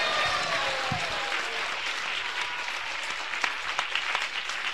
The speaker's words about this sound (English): Please give a big round of applause for His Holiness Prabhu Vishnu Swami Maharaj. Пожалуйста, поприветствуйте Прабху Вишну Свами Махараджа.